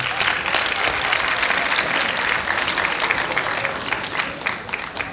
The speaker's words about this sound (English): I would like you to give them a hand of applause.